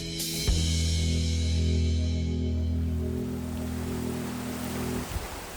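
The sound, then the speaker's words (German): The Möll, a mountain river in Carinthia, Austria, babbles and rushes in a steady, unbroken wash of water noise, with a faint low hum underneath and no voices. “Das, was man hier im Hintergrund plätschern hört, das ist die Möll.”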